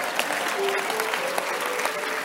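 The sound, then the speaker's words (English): A crowd claps steadily and densely, a continuous wash of many hands with sharp individual claps poking through, while a faint voice murmurs underneath. “All of you are clapping.”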